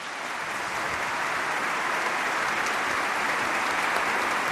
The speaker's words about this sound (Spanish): Un aplauso para mí.